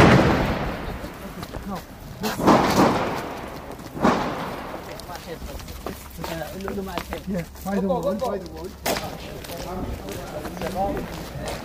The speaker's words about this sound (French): On entend des coups de feu de temps en temps.